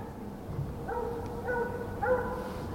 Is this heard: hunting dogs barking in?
yes